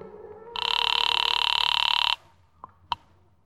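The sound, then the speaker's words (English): A single loud, buzzing telephone ring, after a number is dialed from a phone booth, lasts about a second and a half, followed by two faint clicks like a receiver being picked up. “I walked across the street, stepped into a phone booth, and dialed my own number.”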